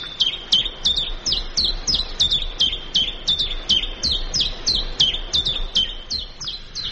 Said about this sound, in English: your bird actually says its own name